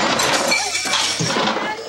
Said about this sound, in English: Mark knocks one joker across the table and the other into some chairs.